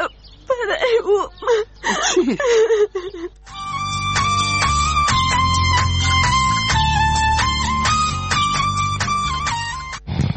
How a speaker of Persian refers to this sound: تو خو گریه میکنی، چی گپ است؟ تو کسی چیزی گفته؟ دخترم بگو بریم.